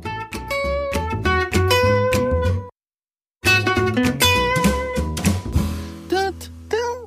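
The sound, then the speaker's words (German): A short, bright intro jingle for the Mentors Katzenbazar segment of Kanzleifunk, with a steady rhythmic beat and layered instruments. It cuts out briefly partway through, then resumes just as loud, ending with a few swooping, sliding notes. “Ach, ich liebe diese Musik.”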